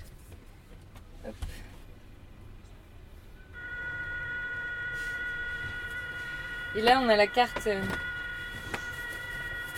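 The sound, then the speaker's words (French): A Morse code signal: steady, high electronic tones stacked at several pitches, droning on for about six seconds at moderate level, while people speak briefly before and over it. “Donc c'est un code Morse qu'on entend.”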